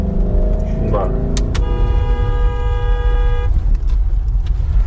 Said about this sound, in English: This is the mom, like, driving. You can hear, like, their truck that she's in, the engine's just like roaring.